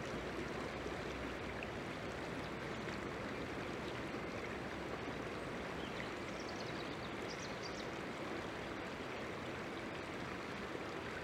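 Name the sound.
flowing river water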